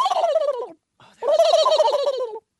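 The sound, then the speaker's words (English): A person imitates a turkey gobble with two loud, rapid warbling bursts, a short one and then a longer one after a brief pause, with no other talking. “We're talking about turkeys. Don't they do that? They go.”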